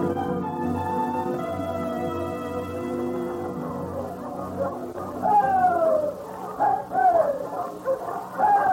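A big husky sled dog with a white star, the lead dog, whimpers with high, wavering whines, then breaks into a few sharp barks and yelps toward the end, with a steady low hum underneath.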